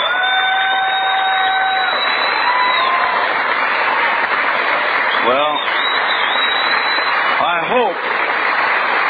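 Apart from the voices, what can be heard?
audience clapping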